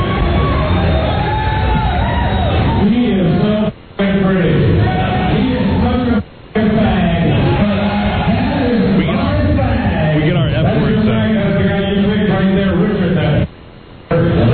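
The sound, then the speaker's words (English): A large crowd at a live show in downtown DC cheers, yells and whoops continuously, a dense wall of many voices, broken by a few brief silent gaps. “That's a lot of people, man.”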